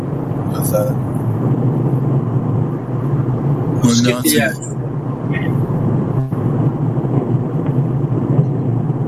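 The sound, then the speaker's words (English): Steady low road and engine rumble from inside a moving car as a man drives it, continuous and fairly loud, with a voice talking over it and a brief squeaky sound partway through. “look at you driving your car.”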